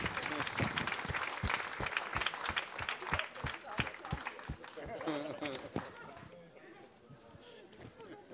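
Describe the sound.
An audience applauds steadily, with a strong rhythmic beat of unison clapping running through the dense patter, then the clapping thins out while voices chatter in the crowd.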